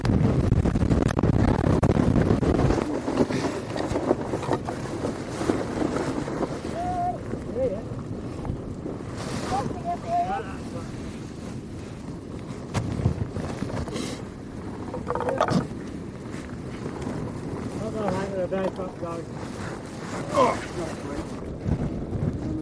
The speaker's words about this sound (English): It's a bit windy.